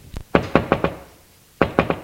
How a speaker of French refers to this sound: Puis, Geneviève, la mère, frappe à la porte de la chambre de son mari.